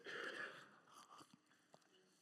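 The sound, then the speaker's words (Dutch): Someone takes a quiet sip of water, a soft slurp followed by faint wet mouth clicks and a small swallow. “Ah, ik moet even een slokje water drinken.”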